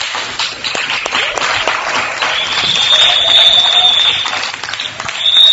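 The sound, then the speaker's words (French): An audience in the MONUSCO conference hall in Kinshasa applauds during a live broadcast, a dense, steady wash of many hands clapping that swells slightly louder toward the end, with a thin high whistling tone running through it. “Aujourd'hui, nous sommes en direct de la salle des conférences de la MONUSCO ETEX Africa, ici à Kinshasa, sous vos applaudissements.”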